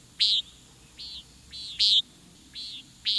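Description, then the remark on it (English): A common nighthawk gives its short, buzzy, nasal flight call six times in quick succession, alternating louder and softer notes, against a quiet evening background with no voices. “It's the flight call of the common nighthawk.”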